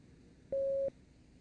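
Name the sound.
beep tone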